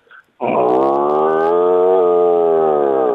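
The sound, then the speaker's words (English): A person imitates a cow's moo with one long, loud, steady low-pitched lowing sound that holds for nearly three seconds, preceded by a brief faint noise. “Can I do a cow?”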